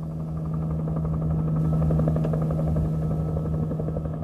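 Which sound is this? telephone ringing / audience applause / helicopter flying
helicopter flying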